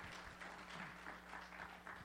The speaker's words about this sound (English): Y'all give him a big welcome. Let's give the Lord another hand of applause. Amen.